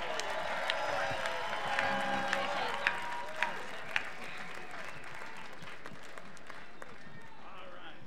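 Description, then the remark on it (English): An audience applauds a band in a steady, dense wash of clapping, with a few sharper, louder claps standing out. Faint voices murmur underneath, and the applause thins slightly toward the end. “Please give this nice band a nice warm round of applause, please.”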